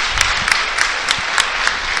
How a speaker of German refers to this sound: Klatschen sich da alle gegenseitig nochmal ab. Bei Gütersloh das Gleiche.